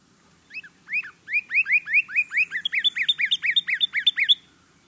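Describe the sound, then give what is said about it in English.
A bird sings a bright, clear whistled song of rapid upslurred notes, about twenty in quick succession, rising in pitch partway through and ending abruptly, with a faint low hum beneath. “To see a flash of red, and then these fantastic bursts of clear whistled song.”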